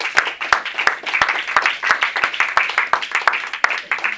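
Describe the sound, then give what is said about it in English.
An audience claps together as a clap offering after a prayer, a dense, steady patter of many hands with sharp individual claps popping out across the few seconds, fairly loud and sustained, with a faint murmur of voices beneath. “Would you give him a clap offering, please?”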